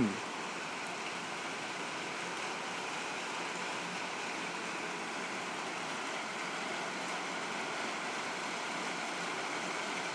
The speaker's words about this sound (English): Now you can just hear the rain.